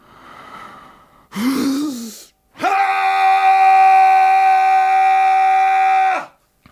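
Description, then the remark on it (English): A man's primal scream, of the type classed as an air, male, primal, bardo scream: a faint breath, a short rough rising cry, then a loud, sustained scream held at one steady pitch for several seconds before cutting off sharply. “It's an air, male, primal, bardo scream.”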